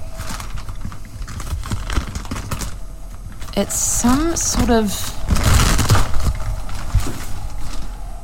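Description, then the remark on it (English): Crinkly rustling of an old plastic bag, apparently there for years, being rummaged through in a cleaning cupboard in a ladies' bathroom; the bag holds a Hoover vacuum filter. Irregular crackles and handling noises throughout while someone speaks briefly. “That when you crawled into the cleaning cupboard in the ladies' bathroom and you unearthed a plastic bag. Okay, I'm just going to get into this cleaning cupboard.”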